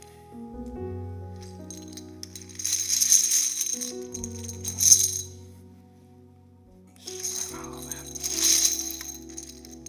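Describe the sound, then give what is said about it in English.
Poker chips marked 'all in' are poured out across the front in two long rattling, clinking bursts, a bright clatter that swells and fades, over steady low sustained tones. “And I'm just going to pour them out all across the front of this side.”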